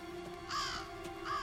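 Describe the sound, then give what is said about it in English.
Two harsh crow caws in a video game, evenly spaced about a second apart, moderately loud over a faint steady hum in the background; no one is speaking. “A crow.”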